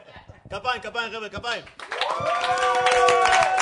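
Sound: hand clapping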